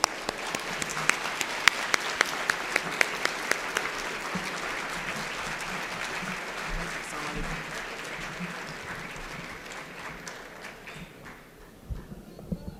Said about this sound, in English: I want an extremely excited round of applause for Dr. Sherman Jackson.